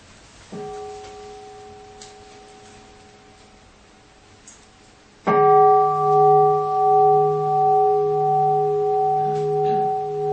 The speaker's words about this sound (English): Let's try it with one sound of bell. Lass uns das versuchen mit einem Klang der Glocke.